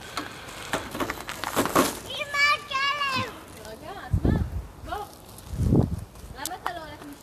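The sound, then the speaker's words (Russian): Children's voices chatter in the background, high-pitched and lively, with a few excited calls and some scuffing sounds mixed in. “Сейчас, секунду, тут дети разговаривают какие-то.”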